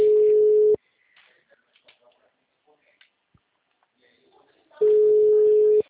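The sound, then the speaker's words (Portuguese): A phone rings in two loud, steady tones, one at the start and one at the end, with a long gap of faint scattered noise and murmuring between them. “O telefone dela lá, atende lá.”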